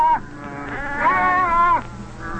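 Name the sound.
sheep bleating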